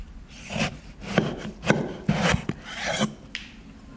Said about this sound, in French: Donc je coupe le melon.